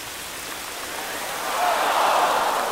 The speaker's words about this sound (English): everybody gathered in City Hall Park. And they turned a big fountain on and...